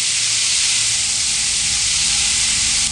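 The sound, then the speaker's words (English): A steady, loud roar of the front of a flash flood rushing down a canyon during heavy rain, a dense hissing wash with no breaks or voices. “The full-on front of a flash flood comes down.”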